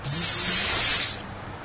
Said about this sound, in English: Although there's so many grains stored in that facility, it's infested with snakes. You can hear them.